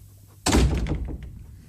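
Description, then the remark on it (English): A door swings shut with a single solid, fairly loud thunk, its low rumble fading quickly into quiet with no voices. “I'll open the door.”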